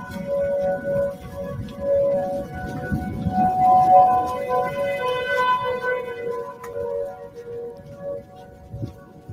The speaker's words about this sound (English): That one time, all the tornado sirens in my neighborhood accidentally harmonized. Middle of about 4 sirens. So it may have been that 4 sirens were going off perfectly. Seriously, this is crazy.